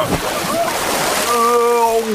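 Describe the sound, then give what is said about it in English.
A dog, Pilar, splashes into water with a brief burst of noisy spray, then a sustained high, tonal cry rings out for about a second afterward. “Time for a swim.”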